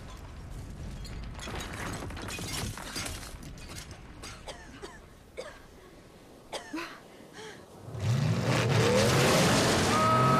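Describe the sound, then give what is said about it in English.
After scattered clattering and crunching debris, a blue Ford Bronco pickup truck drives out of bushes, its engine roaring loud near the end, rumbling steadily as it pulls up and stops. “Bosley drives out of the bushes in a blue Ford Bronco pickup truck. He stops beside the girls.”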